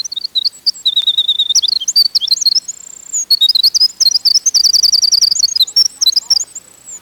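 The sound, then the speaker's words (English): A winter wren sings a long, rapid cascade of high, tinkling trills and warbles, nearly continuous for several seconds, loud with no other sounds. “Winter wrens can be heard along old spruce bogs.”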